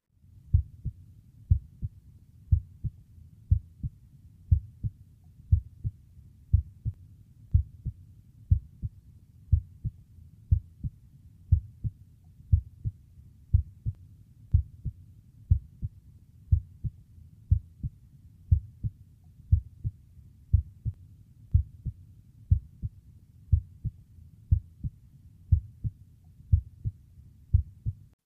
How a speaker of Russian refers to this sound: В этой точке первый тон оказывается громче второго. Прослушайте нормальные тоны сердца на верхушке. Обратите внимание, короткая пауза между тонами является систолой, а длинная – диастолой.